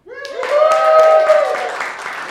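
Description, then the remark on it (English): A live crowd breaks into cheering in a vote for the Magic Carpets of Aladdin as the best aerial carousel in the Magic Kingdom, with a loud sustained whoop riding over scattered clapping that continues for a couple of seconds before tapering slightly. “Cheer for me. Yeah, applause.”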